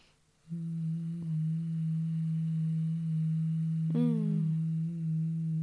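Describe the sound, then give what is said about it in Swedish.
A person hums one long, steady low note on an exhale, breathing with sound. It stays level and fairly loud, with a brief wavering lift near the end before settling back. No words are spoken. “Så det blir som ett hummande på utandetaget.”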